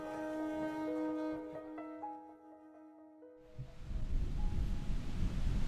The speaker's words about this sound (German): Guten Morgen, der Wind ist zurück, der Himmel bedeckt, aber es ist warm.